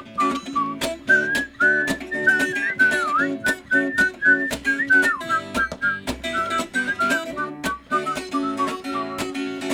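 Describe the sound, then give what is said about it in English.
A group of kids whistles a bright melody together over a strummed, rhythmic musical accompaniment, the whistled tune wavering slightly and sustained through most of the passage at a moderate volume. “Now on this part, we love to get the kids to whistle.”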